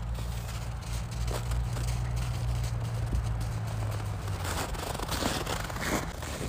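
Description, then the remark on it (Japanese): Footsteps of one person and a dog named Toichiro walking outdoors, a steady run of scuffing steps over a low background rumble, with no one talking. “2人じゃねえや、1人と1匹の足音を聞いてもらおうかな。”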